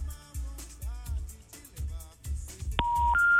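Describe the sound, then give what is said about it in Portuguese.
After a stretch of muffled background sound, a click is followed by the busy signal of an occupied telephone line: steady electronic beep tones that step up in pitch, clear and loud on the line. “O telefone encontra-se ocupado.”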